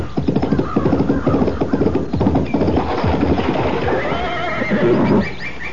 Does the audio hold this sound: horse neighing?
yes